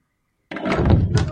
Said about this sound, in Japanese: 雪に半ば埋もれたドアを開き、やっとのことで中に入る。